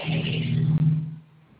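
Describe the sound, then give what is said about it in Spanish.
A car engine drones with a steady low hum from inside the vehicle, holding fairly loud for about a second before fading to a quieter rumble. No voices. “No, es que yo estoy en mi carro”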